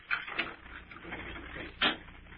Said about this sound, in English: All right, wait a minute. I gotta unlock the door.